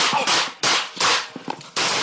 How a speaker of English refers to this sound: this story contains the sound of gunshots